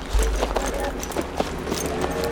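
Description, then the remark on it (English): Several horses' hooves clop in a loose, uneven rhythm, slowing to a few scattered steps over a steady low rumble, as JT Priest and his men stop their horses on an icy trail high up a mountainside. “In the gray stillness high up the mountainside, JT Priest and his men stop their horses on the icy trail.”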